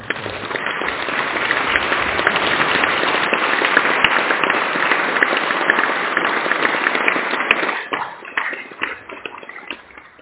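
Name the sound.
audience applause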